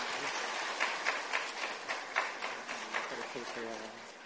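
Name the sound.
audience applause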